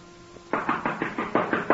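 knocking on a door

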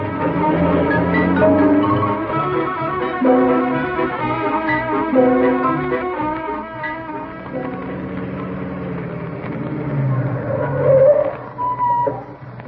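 car driving off

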